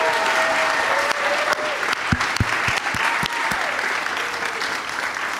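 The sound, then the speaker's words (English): A live audience applauds steadily for the guests at the end of a show, dense clapping with a few sharper individual claps standing out, and a faint murmur of voices underneath. “And thanks to you guys for coming out today. Great crowd. One more time for all of my guests”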